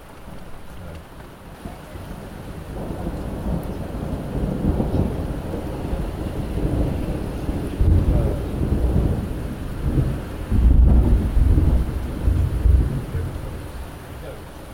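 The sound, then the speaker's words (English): A thunderstorm with lightning rumbles steadily, with deep rolling thunder swelling around the middle and late seconds over a constant wash of rain and wind noise, no voices present. “Now it's lightning, I can see it.”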